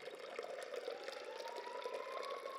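A steady stream of clear water pours from the carved stone mask spout of a stone fountain into a basin, a continuous splashing with a faint rising tone as it fills.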